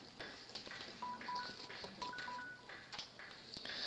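mobile phone keypad tones

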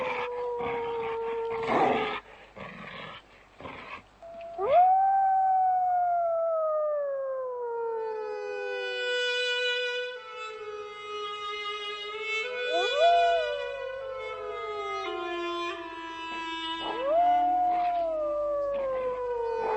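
dog howling

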